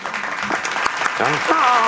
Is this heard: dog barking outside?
no